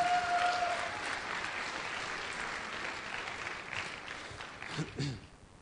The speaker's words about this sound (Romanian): Hai să aplaudați că și-au făcut datoria bine.